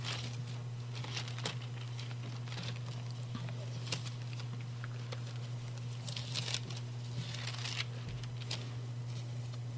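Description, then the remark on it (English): Bible pages being turned to 1 Corinthians chapter 12: irregular papery rustles and flicks, with a few sharper crinkling bursts, over a steady low electrical hum and no talking. “It's another thing that I do have trouble with. Turning pages.”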